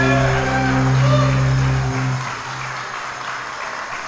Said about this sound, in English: Now, in case you're unsure about this, there was some applause there, but we in the band, we realized the applause was not for us, right? It was for the creator of the universe.